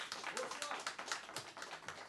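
An audience claps, welcoming a member of the programme's team: a dense, steady patter of many hands with crisp, irregular slaps, holding at a moderate level for about two seconds with no clear speech over it.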